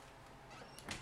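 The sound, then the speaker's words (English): A door is moved, with a faint squeak followed by a brief knock or bump near the end. It is quiet overall and nobody speaks. “Actually, no, we're going to leave that door open.”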